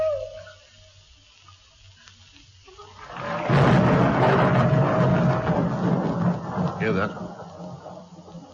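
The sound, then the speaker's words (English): After a few seconds of near quiet, a thunderstorm at Stonehenge swells in with a loud, sustained rumble and hiss of heavy rain, rolling on full until the end. “Hoot and a thunderstorm.”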